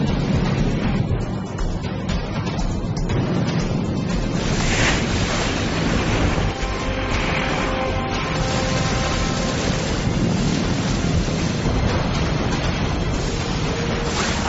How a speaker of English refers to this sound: One is on the water this time. The water bomber is already attracting attention from other pilots.